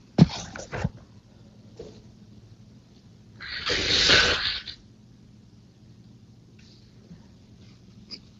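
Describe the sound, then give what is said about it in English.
A person blows their nose once in a loud, breathy, sustained honk lasting about a second, preceded by a few short sniffs and rustles, otherwise quiet. “Hang on, guys, I'm gonna blow my nose.”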